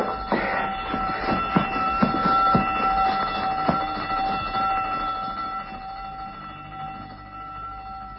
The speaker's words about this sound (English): That's what I wanted to hear. The prison alarm bell. Sweet music. Telling them all we've escaped.